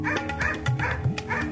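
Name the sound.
dog barking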